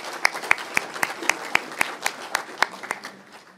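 A small group of council members applauds at a council meeting, approving appointments by acclamation, with one set of sharp, evenly spaced claps standing out over a softer wash of clapping for a few seconds.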